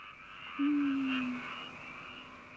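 A frog, recorded in Iwamizawa, Hokkaido, Japan, gives one drawn-out, low, slightly falling croak lasting under a second, set against a steady background chorus of other frogs calling.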